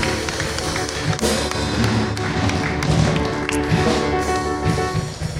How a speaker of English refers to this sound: Come on, put your hands together for Jesus.